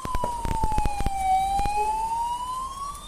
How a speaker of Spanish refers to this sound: Escuchan las sirenas de bomberos.